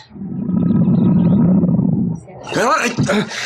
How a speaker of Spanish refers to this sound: El tigre, compañero de la mujer salvaje, se incorpora y, advirtiendo que su ama está en peligro, lanza su rugido de muerte, mostrando los largos y filosos colmillos.